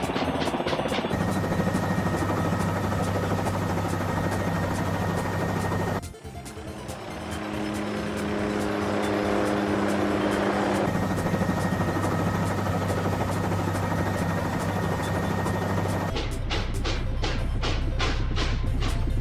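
Helicopter flying, a loud steady engine drone with a humming tone that shifts midway, then rapid rhythmic rotor chopping near the end. No voices.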